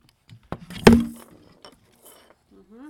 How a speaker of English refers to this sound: What's this? Tambourine. Maraca and tambourine. You think? No, you really like those maracas, don't you? Oh, you're knocking everything over. You're making quite a noise.